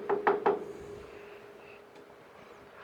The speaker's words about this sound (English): A courier rides through the gate and up the walk, dismounting next to a sign that reads, Bolton Manor. He knocks at the door and is greeted by a servant.